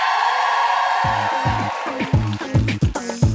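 A crowd applauds with a steady wash of clapping, and after a moment loud rhythmic cheers and whoops burst in, rising and falling in quick repeated shouts; the audience is applauding to vote for a contestant, a former producer.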